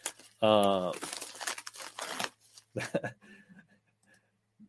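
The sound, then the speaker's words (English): Someone opens a mailed package with scissors: rustling crinkles and short tearing bursts of packaging material, following a brief vocal sound at the start. “So he's getting the old battle braid scissors out. I'm going to see what Sycamore sent me.”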